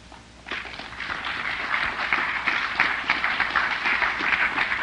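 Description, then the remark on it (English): After a poem reading, an audience breaks into applause after a brief pause, many hands clapping in a dense, steady patter that holds at a fairly even loudness until the end, with no talking. “Okay, that's it now for the, because you can't, like, then there's going to be the poem you don't applaud for, and then I'm going to get all screwed up about that.”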